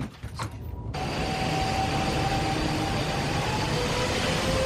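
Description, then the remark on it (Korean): A train departing from Seoul Station rumbles steadily and loudly after a brief quieter moment, with a faint rising mechanical whine running through the noise as it gets under way. No one speaks. “그런데 서울역에서 열차가 막 출발할 때 소동이 일어납니다.”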